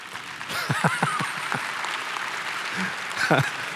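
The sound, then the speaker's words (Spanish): A crowd applauds steadily for several seconds, a dense wash of clapping with a few brief voices and cheers rising above it. “No lo dije por el aplauso, pero lo esperaba.”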